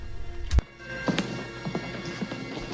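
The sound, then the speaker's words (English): Footsteps of a doctor in a white coat walk steadily along a hospital corridor in New York, a series of sharp, hard taps at an even pace over a low, constant background hum, with no one speaking. “The doctor, in a white coat, walks towards him down the corridor.”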